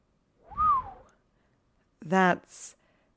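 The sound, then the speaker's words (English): A single low whistle from a man that swoops up and then dips, lasting about half a second, followed after a pause by a brief spoken syllable. “gives a low whistle.”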